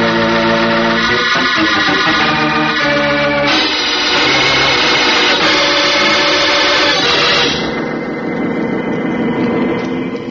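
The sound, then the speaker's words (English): A powerful jet boat engine roars at full throttle, a loud, steady, high-pitched whine with shifting tones that holds throughout, with no voices. “Can't you get any more out of her, Tom? She's taking all she can, and my cooling pumps are working their limit.”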